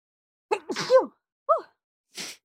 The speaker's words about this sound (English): I'm gonna sneeze.